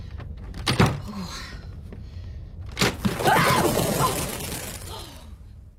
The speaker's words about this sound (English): The door to the lounge sticks. Throw your weight against it.